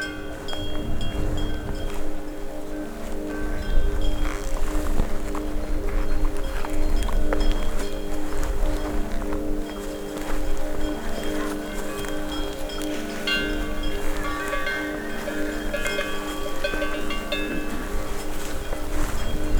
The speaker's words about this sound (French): Ici, balayée par une légère brise de vallée, c'est un troupeau de vaches en mode pause.